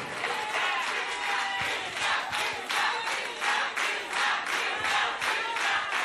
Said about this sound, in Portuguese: Aê! Olha os aplausos! Obrigado, Timbaúba!